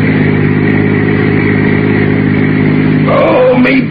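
A steady, droning car engine hums at a constant pace while driving out on the Pacific Palisades late in the evening, with a brief rising whine and clatter near the end. No one speaks.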